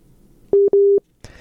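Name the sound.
busy tone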